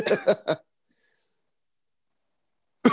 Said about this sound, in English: Sorry, I coughed for you. I had to do it too. I felt a little myself. Tickle.